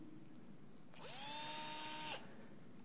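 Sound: cordless power drill running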